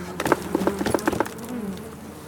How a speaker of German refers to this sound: So, dann ziehen wir mal die erste raus und klopfen die Bienen ab.